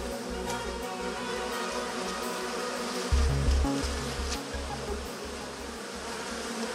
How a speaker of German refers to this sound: Dieses Geräusch hören wir hoffentlich noch sehr, sehr lange, denn wenn die Biene einmal von der Erde verschwindet, hat der Mensch nur noch 4 Jahre zu leben.